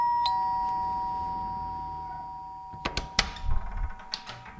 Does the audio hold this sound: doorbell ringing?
yes